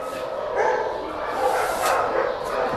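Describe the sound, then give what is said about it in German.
Several small dogs, mainly Podencos, bark and yip continuously in their kennel enclosures in a noisy, echoing chorus, overlapping barks with no pauses, filling the space with steady yapping. “Sind jetzt in den Gehegen, wo die kleineren Hunde sind und vorwiegend Podenkos, aber auch ganz andere Hunde.”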